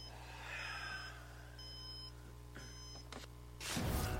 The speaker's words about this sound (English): And then my alarm goes off.